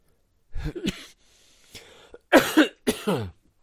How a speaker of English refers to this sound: Sorry, beloved. This cough is now overwhelming me.